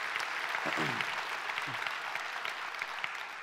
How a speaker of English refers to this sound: And I just want to welcome in by way of video the Juvenile Detention Facility and our Nagpur, India campus. Would you give them a warm welcome by way of applause?